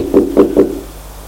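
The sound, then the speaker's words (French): Three knocks on a bedroom door in a quick, even rhythm, dull and mid-pitched, followed by a short quiet stretch with no voices. “Il frappa à la porte.”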